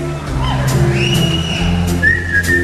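A person whistles a short melody, clear, the pitch gliding between sustained notes over a low, steady musical background.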